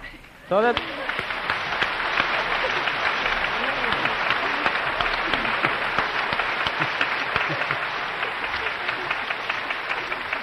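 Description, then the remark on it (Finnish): Audience applause starts abruptly and holds steady for about ten seconds, a dense wash of many hands clapping, with voices talking and calling out underneath. “Eiköhän meillä ole sen verran kylmä kuitenkin, että ei tänne taho kuuluu mitään, mitä te taputatte.”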